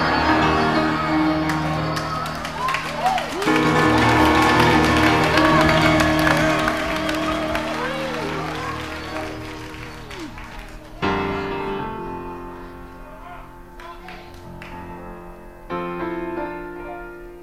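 crowd, audience clapping and cheering

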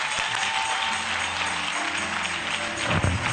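crowd, audience clapping

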